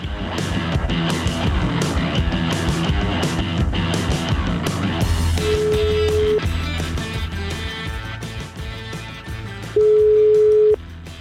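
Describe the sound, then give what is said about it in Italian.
A phone line's ringback tone, from a call placed from Milan to a farmhouse, sounds twice, each steady beep lasting about a second with a long gap between, over a busy, cluttered background of noise and clatter. “Sentiamo comunque, dai, ragazzi, partite con la telefonata, vai.”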